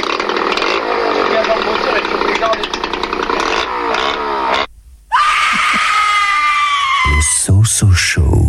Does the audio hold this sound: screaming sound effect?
yes